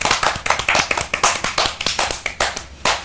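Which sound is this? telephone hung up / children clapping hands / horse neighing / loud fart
children clapping hands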